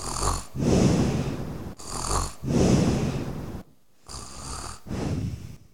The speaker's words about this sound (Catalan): Fart i amb la panxa plena, el llop va tornar a ficar-se al llit i es va posar a dormir i a roncar com un tro.